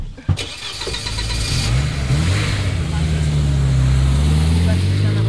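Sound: car engine starting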